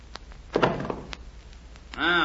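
A door slams shut with a single heavy thud, preceded and followed by a few sharp latch clicks; a voice begins speaking right at the end.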